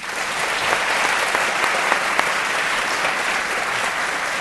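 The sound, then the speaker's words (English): Sustained applause from a large audience at an Intelligence Squared US debate recorded for NPR broadcasts, a dense steady wash of clapping at even loudness for several seconds, with a few sharper claps standing out and no talking. “At this point on the NPR broadcasts, they take a break, and then we come back again to the broadcast, and it's very helpful if it's refreshed with a round of applause from all of you, so I'd like to ask you to do that.”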